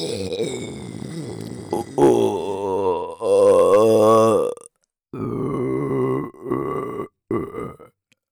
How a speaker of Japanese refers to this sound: もうゲップまみれて最高だな。